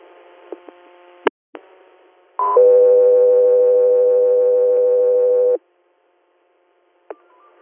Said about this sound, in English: stand by for tones.